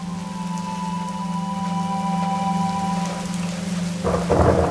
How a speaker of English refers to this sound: Rain falls on this high plateau in summer thunderstorms.